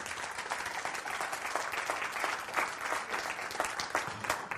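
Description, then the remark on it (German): A crowd applauds the people who live in the Burg, many hands clapping in a dense, continuous patter that holds at a fairly even loudness for several seconds, with no voices standing out. “An der Stelle könnten wir allen Menschen, die die Burg bewohnen, für die Gäste, die Burg ist dieses nette Gebilde, dieser Kasten, mal einen kleinen Applaus einschieben.”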